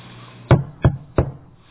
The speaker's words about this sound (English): Well, not this lady sitting home reading, and as she's reading, well, she heard somebody knock on the door, but she couldn't understand that.